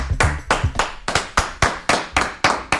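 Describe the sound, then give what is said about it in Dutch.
Steady, rhythmic clapping, about ten sharp claps at an even pace, each with a quick decay. No voices are heard. “Applaus, dankjewel.”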